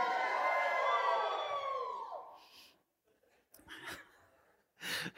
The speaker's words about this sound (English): Come on, let's see how much you get into this. You ready? Go. You can give it a little yell too, it's okay.